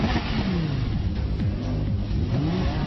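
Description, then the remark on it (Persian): The engine of a car being shown for sale revs loudly, its pitch climbing and dropping in several quick surges over a steady, throaty rumble, with no voices. “این ماشین چطوره؟”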